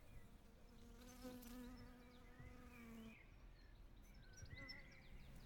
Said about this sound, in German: Ja, also die Bienen haben hier bei mir, bei den Rosen, sehr viel Nahrung und sehr viel Schönes zu finden. Man hört jetzt eher ein bisschen da die Bienen summen. Die sind in der Klematis unterwegs.